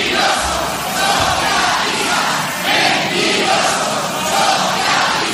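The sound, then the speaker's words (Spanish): A large crowd in the packed Plaza del Ayuntamiento in Pamplona shouts and chants "socialistas mentirosos" continuously, a dense, loud roar of many voices that swells and dips in waves without a break. “Sí, una moción, Beatriz, que le daría precisamente la alcaldía al concejal de Bildu, Joseba Asirón, se está celebrando en la plaza del Ayuntamiento, totalmente abarrotada y entre gritos de socialistas mentirosos.”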